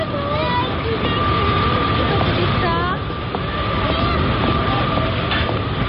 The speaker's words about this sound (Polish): Vous êtes arrivé à Paris-Gare de Lyon. Gare de Lyon. To pociągi na południe.